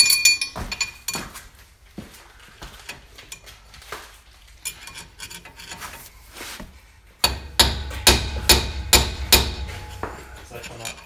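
Metal hammering at close range as bearing races are knocked out: scattered lighter taps and clinks at first, then a steady run of about eight louder, ringing blows.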